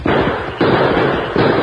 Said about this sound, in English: The explosion of gunfire that brought the Lone Ranger and Tonto on the run rang through Candy Lonergan's cafe and brought everyone to sharp attention. Hey, gunplay. Hey, explosion, too.